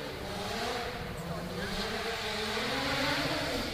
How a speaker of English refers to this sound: Why don't we go ahead and bring out the hero car and let everybody see it?